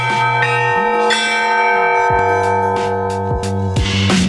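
Church bells peal in a steady run of repeated strikes, their rich ringing overtones layering and sustaining loudly between hits, with no voices present.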